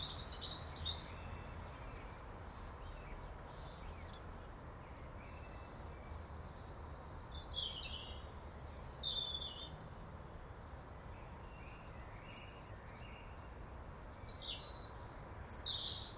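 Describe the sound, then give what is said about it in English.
Starlings calling in scattered bursts of high chirps, clicks and whistles, coming and going over a steady outdoor hiss, with no one speaking. “I can hear starlings somewhere.”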